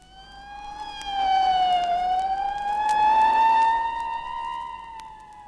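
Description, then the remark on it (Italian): A Red Cross ambulance siren wails continuously, its pitch sliding down and then slowly rising again in a long sweep, loud, with no voices present. “La sirena della Croce Rossa.”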